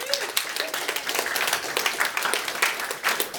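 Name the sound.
small round of applause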